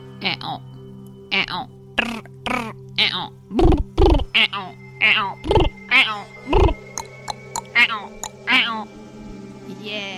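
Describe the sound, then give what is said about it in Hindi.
Voices imitate frog croaking in a steady run of about sixteen short, loud bursts, some low and throaty, others higher and nasal, with brief gaps between them. “चलिए हम सब मेंढकों की आवाज निकालते हैं।”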